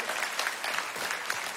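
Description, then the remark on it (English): An audience claps together in a steady, dense patter of many hands, a sustained burst of applause at moderate volume with no voices over it, welcoming a group of men coming out with microphones. “Can we break the awkward silence by giving these guys a round of applause?”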